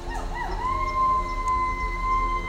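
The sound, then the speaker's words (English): A dog howls, joining in as people in the neighborhood howl, in one long, rising then steady note that holds for a couple of seconds, carried over a low, constant background rumble. “Out here, the dogs and birds like to join in.”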